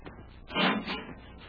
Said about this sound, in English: Let's see if we can open it. Hey, an airlock. Get in and close the door, Hap.